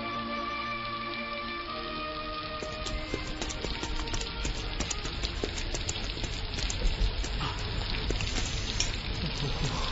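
Steady rain falls throughout, a dense hiss of countless drops with crackling patter on a surface, constant, with a faint tonal hum early on and no talking.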